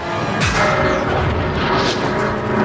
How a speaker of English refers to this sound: Got the hammer sound.